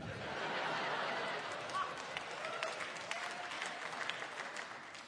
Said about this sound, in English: Please hold your applause. No, please don't hold your applause.